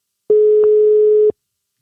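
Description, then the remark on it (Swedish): A single steady telephone ringback tone, one loud, pure, low-pitched beep lasting about a second, heard clearly on its own with no talking. “Där, då ska jag ringa. Vi ringer Anders.”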